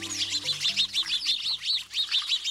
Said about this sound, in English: Like preteens at a swimming pool, this flock of house sparrows chatters as it splashes in a birdbath.